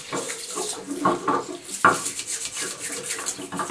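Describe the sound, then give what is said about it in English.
A toothbrush scrubs a shell plate holder in quick, repeated bristly strokes, a steady rasping rhythm broken by one sharp click partway through. No one speaks. “You want to give this a good scrub with a toothbrush.”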